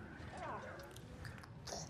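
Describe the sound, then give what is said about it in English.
A child noisily slurps an egg into the mouth, a brief squelching gulp with chewing noises over a low, steady background rumble. “The child slurps the egg into his mouth.”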